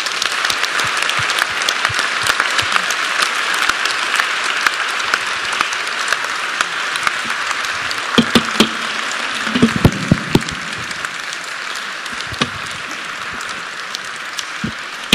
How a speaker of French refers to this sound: On peut l'applaudir.